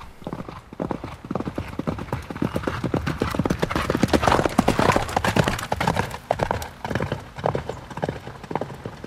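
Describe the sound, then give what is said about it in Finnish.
Steady clip-clop of horse hooves on a hard surface, a fast, even rhythm of sharp knocks that continues throughout, with a faint rustle in the background. “noi kaverit nyt ajattelee tätä niin kuin hevoskärrynä ja nämä näkee näitä näkymättömiä hevosia”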